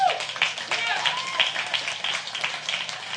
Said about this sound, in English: Yes, that's and would you just give yourself a round of applause?